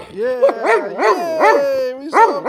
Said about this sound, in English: He likes it. Good boy, Rody. Yeah. Bark.